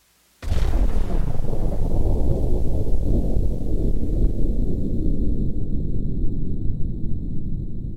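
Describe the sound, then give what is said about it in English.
An atmospheric atomic explosion: a sudden loud blast bursts in, then gives way to a heavy, continuous low roar that rumbles on without letting up. No voices are heard. “And hear the sound of an atmospheric atomic explosion.”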